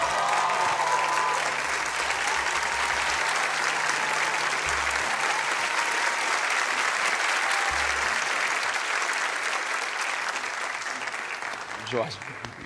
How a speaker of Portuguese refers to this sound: pode aplaudi-lo.